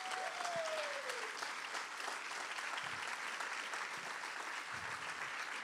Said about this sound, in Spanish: No, ese aplauso está bien flojo, si es para Jesús.